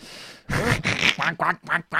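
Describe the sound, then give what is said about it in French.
A person imitates a duck with a rapid string of about six loud, nasal quacks, each a short burst separated by brief gaps. “Et, alors, tu fais très mal le canard, donc on va faire une espèce de convention de Genève de l'absence d'imitation pour toi, tout court.”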